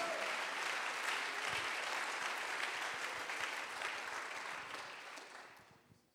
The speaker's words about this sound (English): Come on, one more time. Would you give God a hand clap of praise here? Otro momento, dale alabanza al Señor.